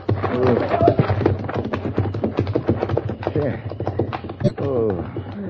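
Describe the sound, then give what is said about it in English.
Horse hooves clip-clop in a steady rhythm, mixed with voices talking over them throughout. “Thank you for the horses, señor.”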